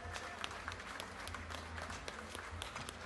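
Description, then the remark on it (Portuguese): An audience applauds steadily as municipal secretaries of health and finance are called to the stage, a dense wash of many hands clapping at once with scattered sharper claps standing out, holding an even level throughout with no voices. “Salva de palmas.”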